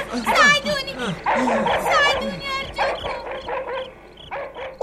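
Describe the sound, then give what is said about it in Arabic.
A dog barks and yips excitedly in a rapid run of short, high calls, fairly loud, continuing without pause for several seconds, as it runs toward a boy who had kept it in a cellar. “وبينما مرتضى والأب يركضان نحو خالد، ظهر الكلب الذي كان خالد يحتجزه في السرداب، وقد كان يركض هو الآخر نحو خالد.”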